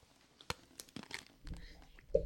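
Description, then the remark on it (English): A crunchy bite into a pickle sandwich, heard as several sharp, crackling crunches in quick succession, followed by softer chewing and rustling. “Good crunch. I can hear the crunch from here, dude.”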